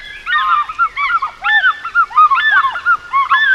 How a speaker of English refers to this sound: Both sexes make this loud call, declaring their territory far and wide. The larger female has a deeper voice, and the pair often calls in synchrony, an unmatched eagle duet.